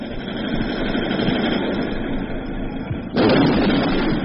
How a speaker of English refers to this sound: The vehicle sounds in the background are the tanks, armored personnel carriers.